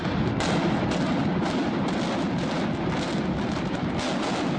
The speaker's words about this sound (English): Shortly after Texas A&M System Chancellor John Sharp finished the countdown came the explosions from 735 pounds of dynamite set off by more than 1,300 blasting caps.